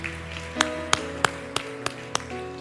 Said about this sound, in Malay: Ya, boleh tepuk tangan yang meriah buat guru-guru sekolah minggu?